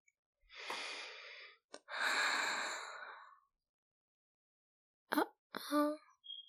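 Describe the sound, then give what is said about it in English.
Two long, breathy nasal inhales as someone deeply sniffs bedsheets, followed after a pause by a few short, quick sniffs. No one speaks. “I mean, I just was taking a little sniff.”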